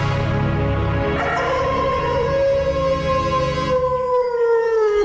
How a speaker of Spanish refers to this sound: Más tarde, al igual que los otros días, el lobo salió aullando del bosque.